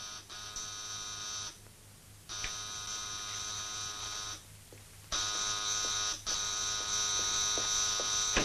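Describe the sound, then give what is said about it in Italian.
A harsh electric apartment doorbell in Rome at Ferragosto buzzes in four long, insistent bursts with short gaps between, each a steady, raspy drone. The last two come almost back to back and sound loudest. “Ma che non funziona il campanello?”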